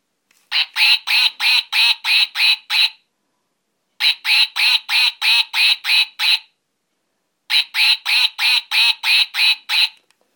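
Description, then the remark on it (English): A furry duck dog toy belonging to a dog named Gunnar quacks in three quick bursts of about six or seven bright, nasal quacks each, separated by short silences, loud with no talking. “So that's the quacky, and he can press that with his teeth himself.”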